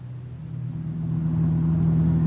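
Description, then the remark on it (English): A car engine hums low and steady, then revs up as the car pulls away in Leopoldville on a late Friday afternoon, its drone growing gradually louder, with no voices. “We pile into his car and head out for the Bergerot.”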